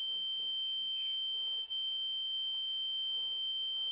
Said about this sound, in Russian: Что-то БПшник свистит.